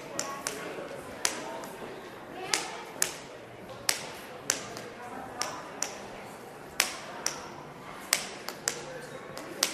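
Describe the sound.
A series of sharp, irregular metallic clicks and taps as a key unlocks a door, over a low murmur of background voices.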